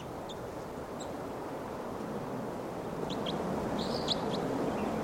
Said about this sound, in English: And the wild bird's chittering.